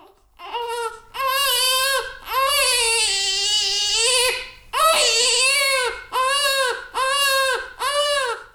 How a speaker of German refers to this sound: Es ist vielleicht nicht das angenehmste Geräusch, aber für viele frisch gebackene Eltern eines der schönsten. Das Geschrei ihres neugeborenen Babys.